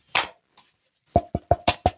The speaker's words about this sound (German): Ich klopfe hier auf dem Schreibtisch. Hört ihr das nicht?